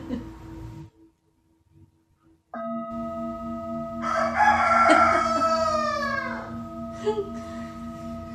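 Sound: rooster crowing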